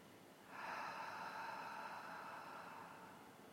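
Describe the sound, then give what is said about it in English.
A single long, airy breath, in through the nose and out through an open mouth: a steady rushing of air that starts abruptly and slowly fades, with no talking. “breathing in through your nose, filling your lungs, expanding your diaphragm, and exhaling with an open mouth.”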